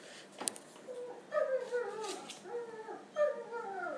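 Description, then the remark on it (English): A big dog outside whimpers and whines in high, wavering, drawn-out tones, two bouts of squeaky crying at moderate volume with a short pause between them and no talking. “Oh, and big squeaky doggy outside.”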